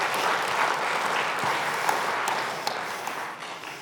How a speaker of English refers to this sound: Give yourselves a round of applause. Thank you for that.